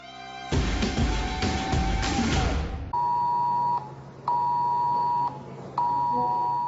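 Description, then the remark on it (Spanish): An emergency alert tone on the mobile phones of residents in the A Cañiza area nearest the fire: a loud, harsh burst of noisy alarm followed by three steady, high-pitched beeping tones, each about a second long with short gaps between them. “Bueno, nos baixamos o sonido, pero así estivo un bo pouco onte nos teléfonos dos veciños da zona da Cañiza máis preto do lume.”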